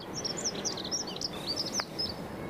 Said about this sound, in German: Sind im Zweifelsfall da so ganz kleine Vögel.